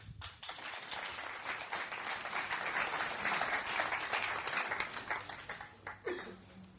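An audience at the BICF claps steadily for several seconds to welcome a speaker, a dense, even wash of applause that stays loud before thinning out at the very end.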